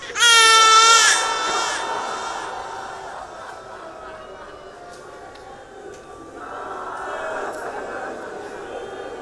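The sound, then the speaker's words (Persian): An infant wails loudly in a strained, moaning cry at the start, then fades into a murmur of background noise before a second, softer stretch of whimpering crying returns. “یه بچه شیرخواره دیدی اینطور ناله میزنی؟”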